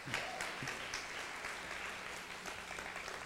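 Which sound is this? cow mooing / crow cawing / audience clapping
audience clapping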